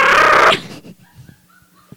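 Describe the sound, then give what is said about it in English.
A person imitates Chewbacca's Wookiee roar: one loud, harsh, strained vocal growl lasting about half a second, followed by faint murmuring and quiet background sounds. “I can't do a Chewbacca.”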